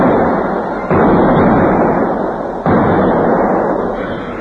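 Two loud explosions of blasting-powder charges set in holes dug in a stream bank go off a couple of seconds apart, each with a sudden onset that swells into a dense, roaring rumble that slowly fades. No voices.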